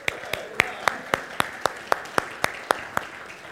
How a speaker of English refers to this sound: So because we know you as an Eagle Scout, can we just give a little applause?